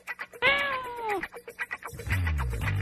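A single drawn-out cat meow, loud, rising then falling over about a second, followed by quieter background chatter and a low rumbling hum.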